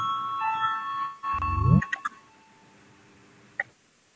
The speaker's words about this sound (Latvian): Lūdzu, zvanu, balsosim par 106. deputāta Sevijas Papuls priekšlikumu. Lūdzu, balsosim.